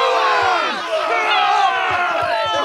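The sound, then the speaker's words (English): A group of firemen shouting and cheering loudly together while pulling in a tug of war at a charity event, a dense, continuous wall of overlapping raised voices with rising whoops and no break for the whole stretch. “And the firemen, who Nicole has been in their so-called appliance, ready on their tug of war. You can hear them.”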